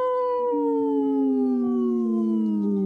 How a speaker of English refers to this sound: This portion of the show is supported by Howling for Wolves, protecting wolves for future generations. Howl!